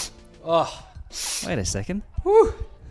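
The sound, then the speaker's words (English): Short breathy sniffs and a snort-like burst of air, mixed in with brief voiced grunts and gasping vocal noises, moderately loud over roughly three seconds. “The sniffing, the snorting.”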